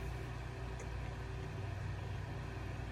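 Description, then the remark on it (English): An electric fan whirs steadily, a constant low mechanical hum with a faint airy hiss over it, unchanging for the whole stretch with no voices. “The fan might be too loud.”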